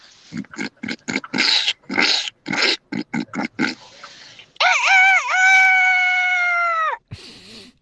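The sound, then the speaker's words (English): In a husband-and-wife farm-animal impression, a voice imitates a pig, first with a quick run of about a dozen choppy grunts, then a long, high, wavering squeal that holds for a couple of seconds before a short final snort. “Okay, so your top five are this one here, the pig.”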